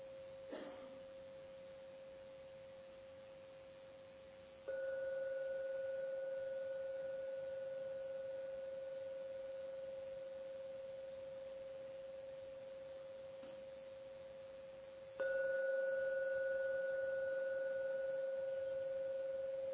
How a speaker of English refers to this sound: Now I'm going to ring the gong three times to end the meditation period. Please listen before opening your eyes. Listen to every sound of the gong. And only when the last ringing of the gong vanishes, the third, only then open your eyes.